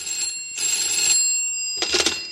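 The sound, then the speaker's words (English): An old-fashioned telephone bell rings in repeated bursts, three trills separated by short pauses, bright and metallic at moderate volume with no voices over it. “answer the phone, will you, please?”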